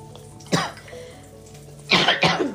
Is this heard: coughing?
yes